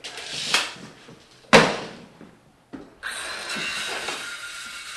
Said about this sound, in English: Today, their construction project includes sawing off the legs of a door jamb to adjust its height.